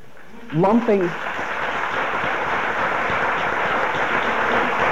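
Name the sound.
audience clapping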